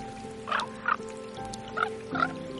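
Raven croaks sound in a forest in four short, hoarse calls, spaced in two pairs, over a steady low humming background with no talking.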